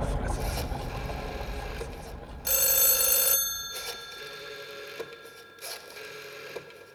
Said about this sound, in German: Das Telefon klingelt. Wenn jemand so früh anruft, kann es sich nur um meine Plattenfirma handeln.